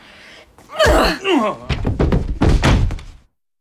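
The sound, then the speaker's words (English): A heavy, dull blow knocks someone unconscious with a thunk, followed by a strained vocal cry and a flurry of rapid thuds and scuffling knocks before everything cuts to silence. “However many times somebody knocks you unconscious, the experience never gets any more enjoyable.”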